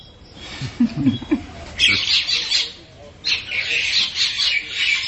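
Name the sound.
birds squawking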